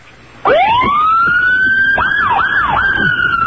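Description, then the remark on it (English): A police car siren blares up suddenly in traffic in Newark, sweeping into a rising wail and then breaking into a few quick warbling yelps, loud and steady with no voices. “Yeah, hit the siren.”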